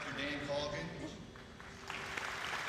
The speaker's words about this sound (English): All got polite applause